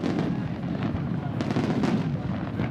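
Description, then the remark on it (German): A dense, rumbling barrage of firecrackers and rockets booming in quick succession, with sharp cracks breaking through a continuous low roar, echoing across the open water of the Bay of Bari, southern Italy, before 10 a.m. at a Saint Nicholas celebration; loud enough to rattle windows across the bay, rockets shooting colored powder into the sky. “Es ist nicht einmal 10 Uhr morgens, da knallen plötzlich Böller und Raketen in der Bucht von Bari.”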